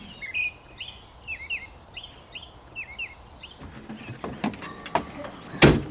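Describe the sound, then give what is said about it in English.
Birds sing a dawn chorus in spring, chirping in repeated bright, looping phrases over a soft outdoor hush, then a few clattering knocks and a sharp loud bang break in near the end. “So in the spring, you go out for a dawn walk and the sound of birdsong is so overwhelming.”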